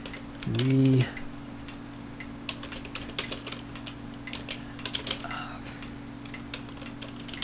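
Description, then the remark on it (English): Steady, irregular clicking of fingers typing on a computer keyboard over a low constant hum, with a brief tonal sound near the start. “Let me see if I can get the keyboard over here without spilling anything.”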